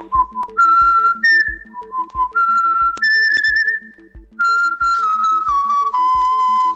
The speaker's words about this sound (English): Still to come in this podcast, have you heard of the WhatsApp whistling craze?